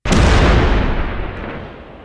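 A single loud cannon blast with a sharp onset, followed by a deep, rumbling boom that slowly decays over about two seconds. No voices are heard.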